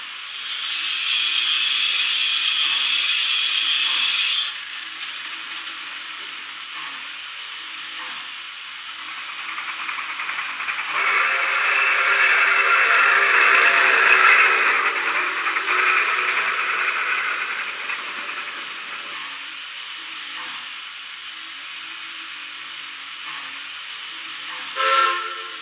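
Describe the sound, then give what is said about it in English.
A steady rush of steam from a steam locomotive's injector as it is turned on, swelling louder in the middle before easing back to a constant hiss, with no voices present. “Turn on the injector.”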